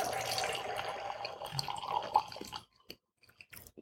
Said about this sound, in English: And I'll pour a little bit more of the wine with that.